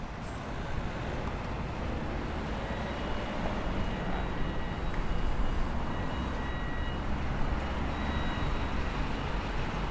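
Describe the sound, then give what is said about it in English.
A steady low rumble of road traffic in Lincoln, with car engines droning continuously as vehicles pass, fairly loud and unbroken, with no voices. “When I walk around Lincoln, I notice the sound of the cars passing by, their engines rumbling conspicuously.”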